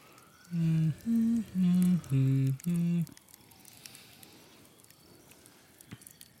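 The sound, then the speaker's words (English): A fire truck coming down the road sounds five loud, low, steady horn blasts in quick succession, followed by a faint wailing siren and road noise. “There's a nice fire truck, too.”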